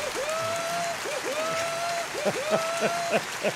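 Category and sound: sound effect, applause sound effect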